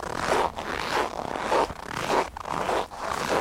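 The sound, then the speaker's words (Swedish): Hiking boots crunch through snow in Svalbard as someone walks, a steady walking rhythm of about six gritty, crackling steps in a row, fairly loud and with no voices. “Och så är det snön som knastrar under mina vandringskängor när jag promenerar.”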